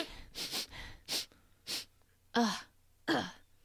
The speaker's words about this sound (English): It's so dank down here. Wait, let me sniff.